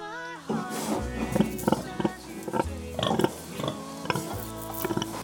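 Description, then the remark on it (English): Several pigs grunt and oink in quick, irregular bursts, fairly loud, with a steady low rumble and some shuffling underneath. “Yes, they're pigs.”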